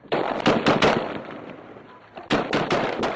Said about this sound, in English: The soldiers detonate the IED. And then are ambushed by incoming small arms fire.